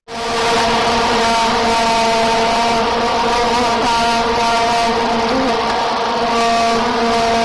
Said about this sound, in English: That's right, the vuvuzela, the instrument that sounds like a swarm of bees that just continues through every match.